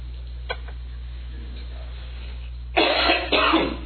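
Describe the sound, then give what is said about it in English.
A man giving a talk to an audience coughs, a brief sharp cough followed by a couple of rough, forceful throat-clearing bursts, with a steady low hum underneath and no talking. “Who's got the cough drop?”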